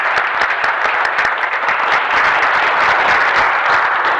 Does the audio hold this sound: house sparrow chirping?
no